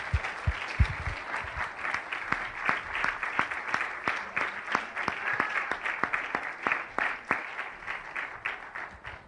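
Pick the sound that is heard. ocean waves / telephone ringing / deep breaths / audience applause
audience applause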